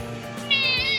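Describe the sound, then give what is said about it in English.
A cat lets out one drawn-out meow, starting halfway through and holding steady to the end, fairly loud over a faint background hum. “Actually, I am just going to dispose of the cat, just so.”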